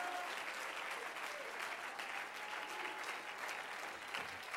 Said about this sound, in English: If you believe that, clap your hands, lift your voice, give him some praise tonight.